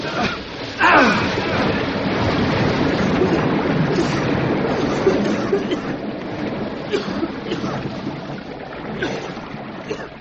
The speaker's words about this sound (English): If this place is full of water, it'll come rushing out in a big hurry.